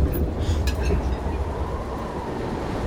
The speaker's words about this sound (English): From the rear platform, Frank looked at the Pennsylvania landscape rolling past. The train would be reaching Philadelphia in another hour or so.